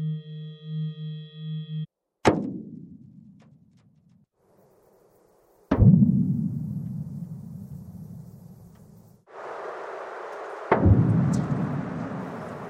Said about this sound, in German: Ähnlich wie wenn Sie einen Donner beim Gewitter hören und Sie sind nah dran, dann ist es ein harter Schlag. Und wenn Sie weiter weg sind, dann wird das immer mehr zu einem Rollen. Und sowas Ähnliches passiert auch mit Erdbebenwellen.